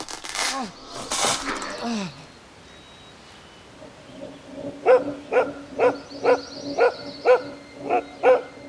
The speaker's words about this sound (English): The barking of his dog woke him up some 20 minutes later.